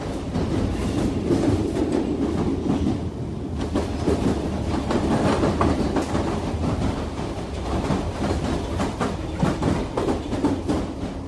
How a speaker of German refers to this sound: Die Londoner Underground hingegen hat noch einen echten Eisenbahnsound. Während der Fahrt ruckeln und schwanken die Waggons bedenklich.